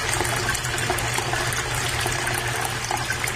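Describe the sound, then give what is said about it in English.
Water runs steadily from a tap in a continuous, even rush, fairly loud, with no voices over it for the few seconds it lasts. “Running water.”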